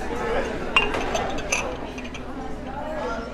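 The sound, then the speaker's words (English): Glasses clink against each other in two sharp, bright knocks, one close after the other, as they are lowered into a dish machine in the Snelling Hall cafeteria at the University of Georgia, over a steady wash of kitchen noise and indistinct background chatter. “To eat a lots of food and also clean dishes and lowering glasses and lowering them into the dish machine.”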